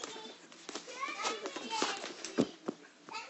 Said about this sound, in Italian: Bimbi, bimbi, potete gridare sottovoce? Potete gridare piano? Gridate piano.